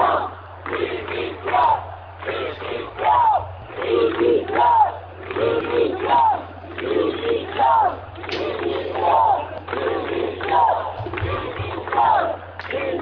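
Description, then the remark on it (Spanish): A large protest crowd in the Puerta del Sol chants in unison, shouting for the resignation ("dimisión") of the current government's leadership, a repeated rhythmic shout roughly every 1.5 seconds, steady and loud throughout, with a low hum underneath. “Sí, la ciudadanía protestando en la Puerta del Sol, cantando, bueno, gritando dimisión a la cúpula del gobierno actual.”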